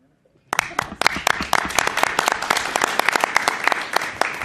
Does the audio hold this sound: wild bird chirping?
no